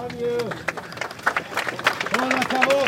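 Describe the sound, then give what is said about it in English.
At a city send-off for rescuers from the Israeli Defense Forces, a crowd claps steadily and densely while several voices shout and cheer over the applause, one man shouting 'well done' in Hebrew, fairly loud throughout. “Around the corner, crowds gathered and applauded as members of the Israeli Defense Forces approached.”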